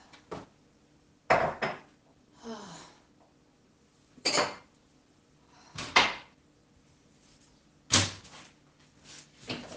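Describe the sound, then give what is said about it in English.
Sharp knocks and clinks of a cup being taken from a cupboard, with a door bumping, coming in irregular bursts separated by short quiet pauses. “First, a cup. A good cup.”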